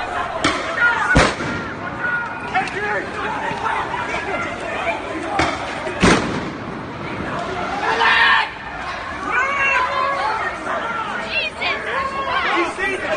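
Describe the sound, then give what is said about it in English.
A noisy outdoor crowd of Patriot Prayer protesters and counter-protesters fighting in Portland shouts and chatters continuously, while a few sharp, loud firecracker and flashbang blasts set off by police go off at irregular moments, cutting through the clamor. “A local news outlet reported that police used firecrackers, smoke bombs, and flashbangs to disrupt the fighting.”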